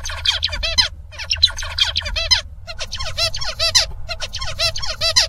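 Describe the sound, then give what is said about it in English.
Two bursts of a small songbird's song: first a tutor bird's song, then a learning pupil bird's attempt to imitate it, the pupil having reduced FOXP2 gene activity. Each is a fast run of repeated chirpy, warbling syllables. The second is an altered copy with fewer of the tutor's syllables and some invented ones, over a low background rumble. “So first of all, we'll hear the teacher, and then I think we'll hear the attempt that this bird made to imitate it.”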